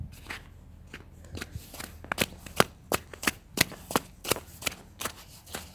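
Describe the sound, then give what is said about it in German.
Footsteps trudging through slushy, muddy snow on a residential street made muddy by a few passing cars, a steady rhythm of wet crunching, squelching steps over a low background rumble, growing a little louder toward the end. “Aber leider sind schon ein paar langgefahren, deswegen ist die Straße selbst schon recht matschig. Das hört man auch.”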